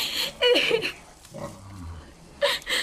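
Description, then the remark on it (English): A small runty piglet squeals in two short, high-pitched bursts, with softer low grunts and snorts in between; fairly loud, no speech. “A little girl is one thing. A little runty pig is another.”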